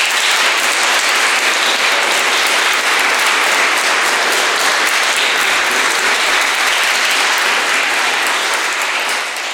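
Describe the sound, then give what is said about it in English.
Sustained applause from an audience after an afternoon recital at a concert at St. James, a dense wash of many hands clapping steadily and loudly for nearly ten seconds without pause, no voices standing out. “Such a beautiful recital on this lovely afternoon. Another round of applause, please.”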